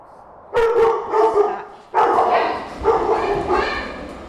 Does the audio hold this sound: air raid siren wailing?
no